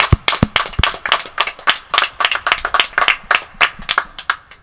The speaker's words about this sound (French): Ils méritent tous un tonnerre d'applaudissements. Encore une fois.